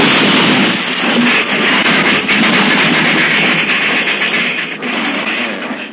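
A train derailment crash, the wreck of a whole train: a loud, sustained roar of grinding, clattering metal that churns on for several seconds with rough bursts throughout, and no voices.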